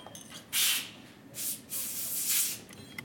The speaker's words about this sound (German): There is sounds again. Das gleiche Zischen wie vorher, gleiche Atmosphäre.